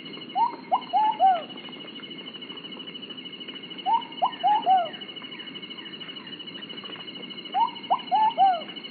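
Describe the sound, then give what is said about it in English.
A ruddy pigeon (Patagioenis subvenaceae) in Colombia sings a rhythmic, fairly high-pitched cooing phrase of four or five hooting notes, repeated three times with pauses between, over a steady hum of insects in the background. “This is the ruddy pigeon, Patagioenis subvenaceae, in Colombia.”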